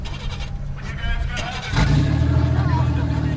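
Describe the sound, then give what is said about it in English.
Several car engines rumble as helmeted drivers start them after a driving lesson, then surge louder partway through as they rev up into a steady, throaty roar that continues to the end. “After the lesson, the ex-couples don their helmets and start their engines.”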